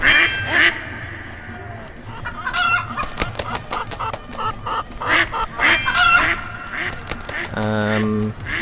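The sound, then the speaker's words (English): Ducks quack repeatedly in short, nasal bursts, mixed with clucking chickens in a busy barnyard chorus in a video game, ending with a longer, buzzy call. “Alright, let's get the chicken and the duck.”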